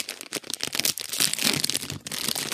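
A plastic bag crinkles and rustles as it is pulled open, a dense run of crackling and scrunching with brief pauses, loud and continuous throughout.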